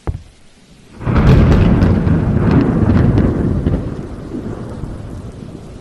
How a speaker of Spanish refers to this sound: Y entonces, en medio de la tormenta